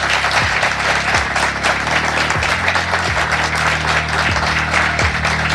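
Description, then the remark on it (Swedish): Sustained, dense applause from a sizable live audience at Restaurang Otto in Göteborg, Sweden, loud and steady throughout with a few faint low tonal sweeps underneath. “Varm applåd till dem.”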